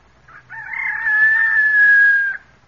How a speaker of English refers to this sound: Oh, so help me it is. It's a chicken.